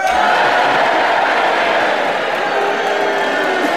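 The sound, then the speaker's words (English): A large audience at the Theatre Royal cheers and boos at once to judge a challenge, a loud, dense wall of mixed voices that holds steady for the whole few seconds without letting up. “If you agree with Peter's challenge and you want him to have the subject and you think it's a legitimate challenge, you cheer for him.”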